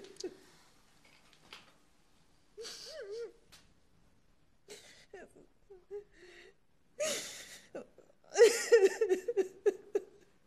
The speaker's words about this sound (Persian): مامان جون تو رو خدا گریه نکن.